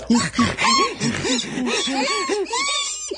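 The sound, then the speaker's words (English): A human voice imitates monkey chatter: a rapid string of rising-and-falling hoots and squeals, fairly loud, repeated about a dozen times without pause. “The monkeys.”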